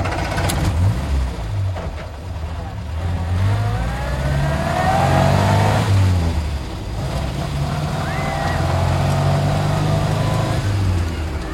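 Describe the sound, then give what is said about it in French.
A car engine revs up and pulls away, its pitch rising through gear changes as it drives off, loud with a steady rumbling undertone throughout. “nous allons maintenant monter dans une voiture et prendre la route.”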